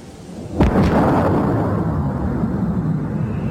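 A sonic boom from a jet-engined car, driven by Royal Air Force pilot Andy Green, breaking the speed of sound for a 763 mph land speed record in the Nevada desert: two sharp, heavy cracks in quick succession, then a deep, loud rumble that rolls on and slowly fades, with no voices.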